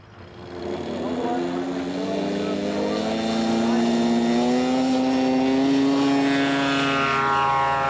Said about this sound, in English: The model performs exactly like a full-sized aircraft, except I can do tricks in it I'd never attempt if I were actually on board. The plane is radio-operated by this transmitter. To take off, I just give it some power.